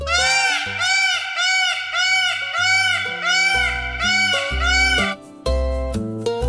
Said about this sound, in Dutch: Wat is dat dan? Is ook weer wel moeilijk, hoor. Het is een pauw.